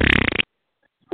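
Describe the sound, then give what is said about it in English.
A voice imitates a queef with a short, loud, sputtering raspberry of rapid flapping pulses lasting under half a second. Silence follows, then someone begins speaking. “And no sooner they in the bedroom, once you got two dicks in and your pussy sound like this,”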